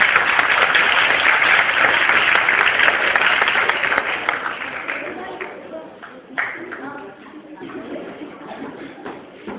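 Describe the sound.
A crowd bursts into loud, dense applause that holds steady for several seconds, then thins out and fades as voices murmur through the tail end.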